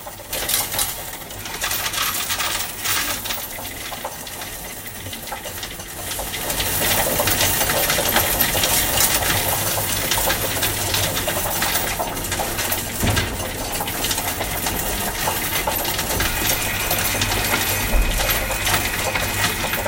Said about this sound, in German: Zeiten, in denen man von bargeldlosen Zahlen spricht und Bitcoin, könnte das Geräusch von solchen Münzen irgendwann selten werden.